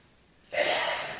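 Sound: sneeze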